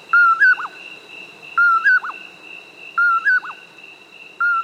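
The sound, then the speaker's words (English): A common poorwill, a nocturnal insect hunter, repeats its soft, whistled two-note call about every second and a half, clear, over a steady high insect-like hum in a quiet night setting. “It's the common poorwill, a nocturnal hunter of insects.”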